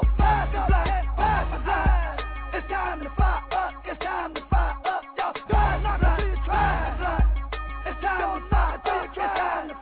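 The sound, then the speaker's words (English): A crowd cheers and whoops loudly with scattered clapping after a music performance, sustained for the whole stretch with sharp bursts of yelling rising and falling above a dense roar. “Yeah, we get applause for that.”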